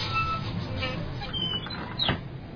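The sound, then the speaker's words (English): A bus engine rumbles steadily as the bus drives through a neighborhood picking up people who need to go to work, with a short burst of hissing near the end as it comes to a stop. “Driving the bus, picking up people, the people that need to go to work.”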